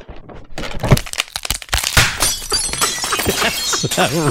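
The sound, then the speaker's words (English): A sharp crack gives way to a loud burst of shattering glass, with bright fragments crashing and tinkling for several seconds. “Now, you didn't get the shattering glass.”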